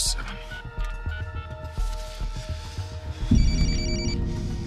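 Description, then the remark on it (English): A telephone rings with a steady, buzzing electronic tone over a low rumble, then the sound shifts abruptly near the end into a brighter, higher-pitched ring with added noise. “It's ringing.”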